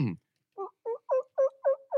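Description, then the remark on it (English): A person imitates a turkey gobble: after a brief opening sound, six quick, evenly spaced throaty pulses roll out in a steady rhythm, fairly loud and mid-pitched, with silence around them. “Yep, that's a turkey.”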